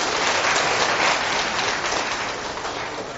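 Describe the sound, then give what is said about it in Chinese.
A crowd applauds steadily to thank a person, a dense crackle of many hands clapping at once, loud throughout and slowly tapering off by the end, with no one speaking. “来，我们掌声谢谢这位朋友。”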